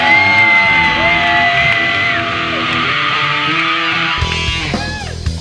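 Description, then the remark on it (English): A loud concert crowd cheers, whoops and yells continuously, many voices overlapping in a dense roar with sustained shouts rising above the din. “let's hear it for …! Come on, you fuckers!”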